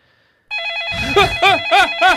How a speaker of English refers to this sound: When the phone rings, answer the phone.